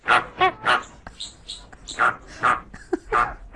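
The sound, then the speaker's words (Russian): Greater (pink) flamingo calls: a rapid run of about eight nasal, goose-like honks with a few squeakier notes, loud, with no talking. “Так это фламинго? Да, это розовый фламинго.”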